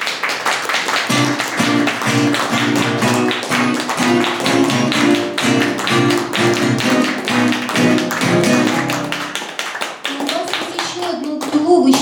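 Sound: applause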